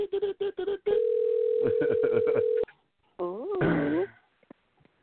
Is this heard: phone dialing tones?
yes